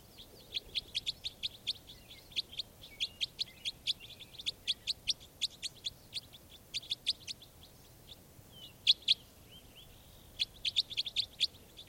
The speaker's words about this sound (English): I think I caught another bird. So I caught two birds here in the net, and the other birds, these are the other birds calling. This is one of the birds.